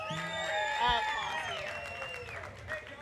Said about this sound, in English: Sophia Gomez Villafane and Payson McKelvin. Can you give them a round of applause, everybody?